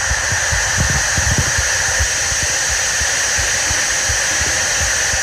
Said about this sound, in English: 8 seconds of … and they paid it, what, $1.29 for it?